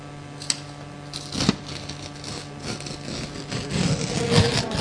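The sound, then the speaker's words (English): Paper rustling and crinkling, with several sharp crackles and a rising, continuous scrunching toward the end over a faint steady hum. “Paper.”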